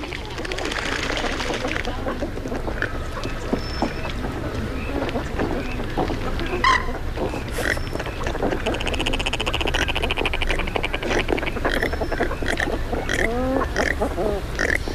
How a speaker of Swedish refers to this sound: Ganska så anspråkslösa leten om man jämför med annan fågelsång, men här finns de här typiska skrakletena.